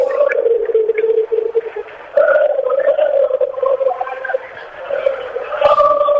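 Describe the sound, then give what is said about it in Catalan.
A crowd of football fans chants together in the streets around La Cartuja, a loud, sustained sung melody of many voices held steadily, with a brief sharp bang near the end. “Bueno, a veure, deixem escoltar els càntics aquests que sonen a la rodalia de la Cartuja.”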